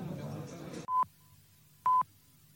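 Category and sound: signal or alarm, telephone number being dialed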